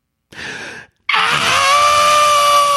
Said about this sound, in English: There's like a scream, but it's like, it's very performative. Yeah. She's a performer. She's very aware, but it's like, it doesn't feel... It's not organic. It's not organic.